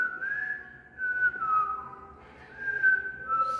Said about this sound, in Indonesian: Yang ketiga tuh ada bersiul. Enggak boleh bersiul.